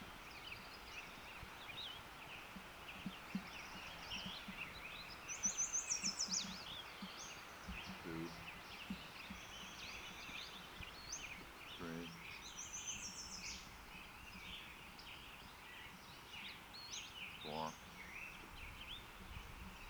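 Western Flycatcher calls: brief, high, thin notes repeated at irregular intervals, with a few lower buzzy chips, set against a steady hiss of background birdsong and insects.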